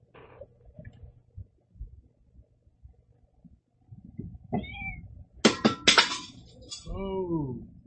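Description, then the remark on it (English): A water bottle topples over with a quick burst of sharp clattering knocks, while a cat lets out short meows just before and after the tumble. “No, that was my water bottle.”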